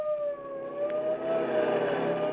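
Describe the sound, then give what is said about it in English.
A police car siren wails loudly, holding a high, slowly drifting tone over a low rumble of engine and road noise, with no voices. “The roar of a police car.”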